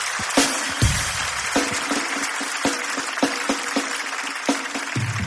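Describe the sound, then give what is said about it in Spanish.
A live show audience claps steadily with dense, crackling applause for an audience member from Cuba, with sharper individual claps standing out and no one speaking over it. “Un fuerte aplauso para Cuba, por favor.”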